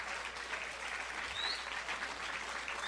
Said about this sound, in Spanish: Ya son finalistas, un aplauso y buenas vibras, a ver que se escuche. Aplausos.